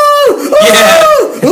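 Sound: imitated screaming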